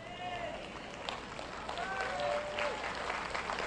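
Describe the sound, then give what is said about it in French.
An audience claps in a steady, moderate patter of many hands for a few seconds, with no single loud burst, while faint voices sound through the applause. “Vous n'applaudissez pas fort car vous pensez, et s'ils veulent quelque chose que je ne veux pas leur donner?”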